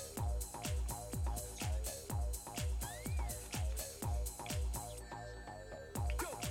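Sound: echo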